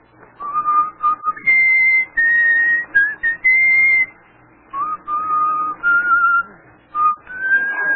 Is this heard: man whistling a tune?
yes